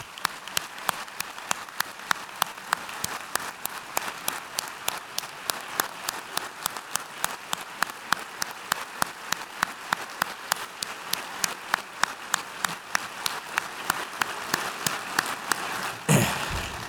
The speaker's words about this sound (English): I'd like you to stand up, and I'd like us to give them a rousing applause.